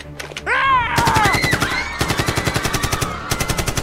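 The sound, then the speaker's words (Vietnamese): A rapid burst of automatic submachine-gun fire, shot at the ceiling inside a crowded bank in Stockholm, Sweden, on 23 August 1973, rattles out in tight, evenly spaced shots, loud, with a brief shouting voice near the start before the sustained firing takes over. “Bắn lên trần nhà và hét lên: "Bữa tiệc chỉ vừa bắt đầu thôi."”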